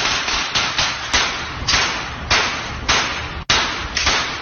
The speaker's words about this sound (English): So a considerable amount of gunfire being aimed towards a target.